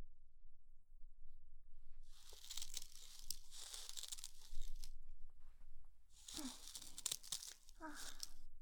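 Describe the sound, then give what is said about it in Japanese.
Newspaper crinkles and rustles in two bursts as someone sits down on it, a long crumpling stretch followed after a pause by a shorter, sharper crackle, fairly quiet against a faint low hum. “じゃあ、そこに座って。新聞紙の上。”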